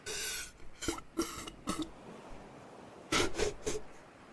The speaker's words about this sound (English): Slurp. Is that what you wanted from me?